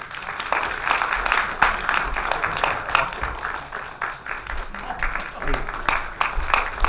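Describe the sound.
An audience applauds steadily for about seven seconds, a dense wash of many hands clapping at once, fairly loud and even throughout, with a faint murmur of voices underneath, warmly welcoming a speaker, an art history scholar.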